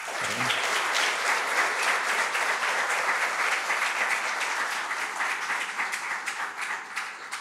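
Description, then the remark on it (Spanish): Sustained applause from an audience in homage to poetry prize author Cintia Paola Barrios Alemán, many hands clapping steadily at an even, fairly loud level for several seconds without any speech. “La autora fue la joven Cintia Paola Barrios Alemán, originaria de la isla de Ometepe, quien está en camino, por los fuertes vientos no ha podido llegar a tiempo, pero le rendimos también el homenaje con este aplauso.”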